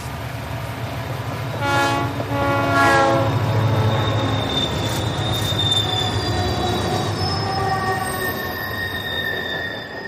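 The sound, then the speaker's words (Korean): A train approaching closely from behind rumbles loudly and steadily with a low roar, a harmonic horn blast sounding near the start, and high metallic wheel squeals drawn out above the noise. No voices are heard. “남자의 뒤로 가까이 다가오는 열차와 열차의 굉음이 하라를 뒤흔들었다.”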